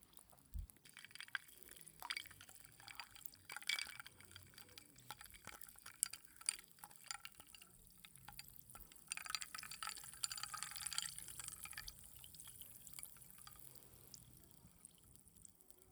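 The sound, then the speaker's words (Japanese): Barley tea is poured into a glass in a steady trickle with occasional drips and splashes, quiet and continuous over the whole stretch with no voices. “うん、麦茶の音。”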